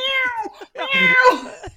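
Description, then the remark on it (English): A voice imitates a cat's meow: a steady, whiny first cry, then a longer, louder second meow that rises and falls in pitch, with no talking. “I sound like a cat.”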